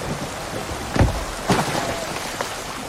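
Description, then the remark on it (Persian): Heavy rain, growing heavier, pours down steadily in a dense wash of noise, with a few louder gusts or splashes surging through around the middle. No one speaks. “بارون شدیدتر شده. برگردیم به ساحل.”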